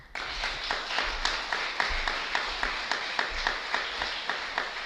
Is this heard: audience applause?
yes